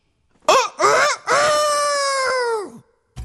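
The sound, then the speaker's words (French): A person loudly imitates a rooster's crow for a record: two short rising yelps followed by a long, sustained, strained note that drops off at the end, with no other sounds around it. “C'est mon vrai chant de coq qu'on entend dans le disque.”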